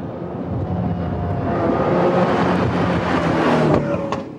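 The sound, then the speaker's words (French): A Ferrari sports car engine revs loudly and steadily, its deep growl rising in pitch with a sustained throaty roar, no voices present. “On a toujours une sensation spéciale lorsque soit on voit, soit on entend, ou soit on pilote une Ferrari.”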